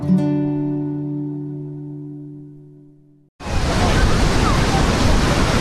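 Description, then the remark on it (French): A sustained, ringing musical chord slowly fades out, then after a brief gap loud, steady rushing surf bursts in as powerful ocean waves break on Maroubra beach in Sydney on a hot Sunday above 35 degrees. “Les vagues sont particulièrement puissantes ce dimanche à Maroubra, mais cela ne décourage pas les milliers de personnes qui sont venues passer la journée sur cette plage de Sydney pour fuir la chaleur qui dépasse ce dimanche les 35 degrés.”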